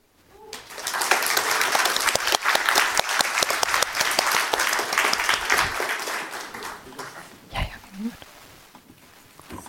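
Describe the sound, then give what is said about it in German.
An audience applauds a group after its presentation, a dense crackle of many hands that swells quickly, holds for several seconds, then tapers off as a few voices and scattered claps remain. “Noch einen großen Applaus und die nächste Gruppe kann sich bereit machen.”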